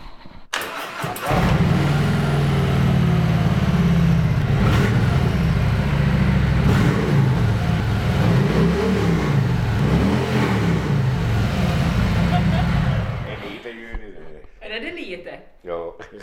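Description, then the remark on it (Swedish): A newly acquired black, chrome-laden Harley-Davidson motorcycle in a motorcycle garage on a farm starts and runs with a deep, rumbling throb, revving up and down in loud surges for about twelve seconds before cutting off, followed by quieter voices. “Är det bara nyförvärven? Det är nyförvärven det är nog. En Harley Davidson, ja.”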